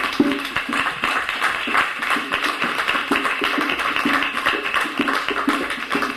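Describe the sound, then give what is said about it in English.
A crowd applauds for a woman who just turned in her thesis, a dense, steady patter of many hands clapping at once that holds an even level for several seconds without speech. “And I think she needs a hand clap.”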